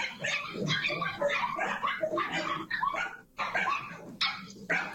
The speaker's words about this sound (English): Why are the dogs freaking out?